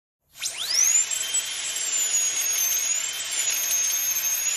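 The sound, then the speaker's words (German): A dentist's drill spins up sharply and holds a steady, loud, high-pitched whine, with slight wavering in pitch and no talking. “Ein Geräusch, das ihr bestimmt schon mal gehört habt, wenn ihr gern zum Zahnarzt geht.”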